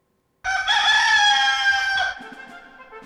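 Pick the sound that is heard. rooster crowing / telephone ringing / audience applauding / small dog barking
rooster crowing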